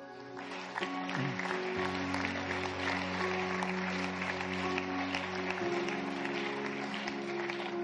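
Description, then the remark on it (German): Sustained audience applause for people who serve behind the scenes goes on at a steady, fairly loud level for several seconds, with held musical tones playing underneath the clapping. “Leute, ich möchte einen Applaus geben an all die Leute, die im Verborgenen dienen, die so wichtige Arbeit leisten.”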